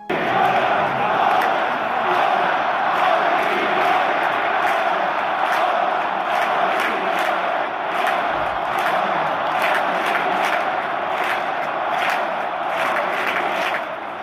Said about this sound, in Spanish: En su casa, en el Molinón, al grito de ahora, ahora, ahora, Kini, ahora.